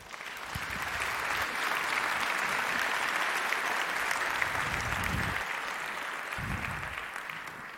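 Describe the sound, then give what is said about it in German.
A large audience applauds as the next speaker at a talk is introduced, a dense wash of clapping that holds at a fairly even level for several seconds before easing slightly at the end. “Bitte einen großen Applaus”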